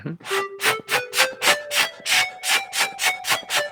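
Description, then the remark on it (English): Breathy, flute-like ocarina tones from the Ocarina iPhone app (2008), played by blowing into the microphone at the bottom of the phone, with multi-touch controlling pitch and phone tilt controlling vibrato; the pitch steps upward in a few notes and then holds steady, with about three puffs of blown air per second and no talking. “And I'm blowing into the microphone located at the bottom of the phone. And I'm using multi-touch to control the pitch.”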